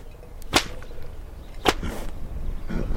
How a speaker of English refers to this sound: The Csikós cracks his 8-foot hand-woven whip in the air, which scares me more than Csomló. According to legend, the Csikós used the sound of the whips to acclimate horses to gunfire.